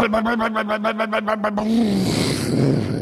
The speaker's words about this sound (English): Now, wait a minute. Actually, that sound was a little different. It sounded much more like a squad of angry mosquitoes that had declared war on humans.